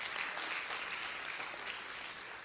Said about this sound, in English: You're distracting me by clapping. That throws me off.